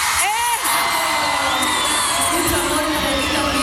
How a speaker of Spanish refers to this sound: mira cómo está esta plaza maravillosa, esperándote, que se sienta el grito para …